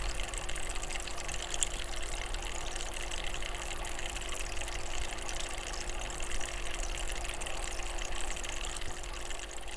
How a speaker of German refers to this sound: Nicht nur das albanische Radio schwingt mit 50 Hertz. Auch die Frischwasserpumpe des Aquariums in Mikes Wohnung befindet sich auf dieser Welle.